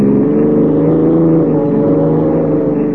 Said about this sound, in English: You're doing 70. Sure, this cop's buggy can travel.